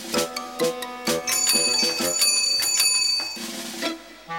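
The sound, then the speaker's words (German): A bicycle bell rings repeatedly in quick, bright metallic trills, fairly loud, with a sustained shimmering ring in the middle before a few final dings. “Eine alte Dose? Eine Fahrradklingel?”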